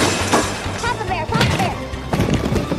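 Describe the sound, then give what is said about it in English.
A loud crash as someone slams into the door of Mr. Jenkins' office and ends up lying on the floor, followed by further thuds and clattering, with wordless vocal sounds mixed in between the impacts. “Rollo crashes into the door and lies on the floor in Mr.”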